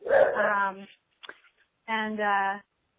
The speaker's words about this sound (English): I also have a boy dog you may have just heard in the background. So sorry about that.